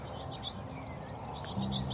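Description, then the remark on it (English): Swallows twitter in quick, high chirping runs, one burst early and another near the end, amid abundant spring birdsong in the Liffey Valley on an April mid-morning, with six swallows counted; soft outdoor background with a low hum creeping in late. No voices. “Do you hear swallow song? I hear the little twitter there.”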